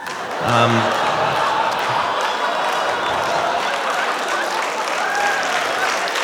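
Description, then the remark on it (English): Steady audience applause, a dense patter of many hands clapping at an even level for several seconds, with a brief vocal sound near the start and faint crowd murmur underneath. “A nice gentle applause break”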